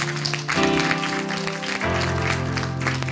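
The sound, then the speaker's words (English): An audience claps in a steady, dense wash for about three seconds in response to a testimony of being declared cancer free after an operation, with sustained musical chords holding underneath and shifting pitch twice. No one speaks. “Can't you clap?”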